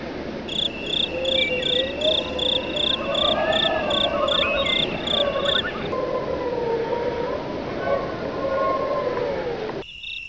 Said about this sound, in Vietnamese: Màn đêm buông phủ, tiếng gió hú quái đản len lỏi qua các khe cửa kiến bể, khiến mấy tấm ván lỏng xúc đinh phát kêu kèn kẹt, hòa cùng những âm thanh vang rền của bọn côn trùng ếch nhái.